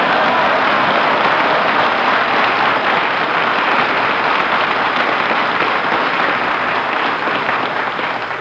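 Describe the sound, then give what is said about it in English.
A loud, steady burst of audience applause greeting a performer's entrance, dense clapping from many hands sustained for several seconds before easing slightly at the end, with no voices over it. “Applaud me and fan the air.”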